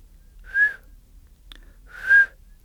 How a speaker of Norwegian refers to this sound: «Jeg får plystre», tenkte Ole Alexander. Han hadde øvd seg veldig lenge på å plystre. Han greide akkurat å få til en tone. Sånn.